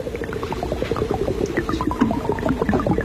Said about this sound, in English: You'll have to guess what that is. That's chicken frying.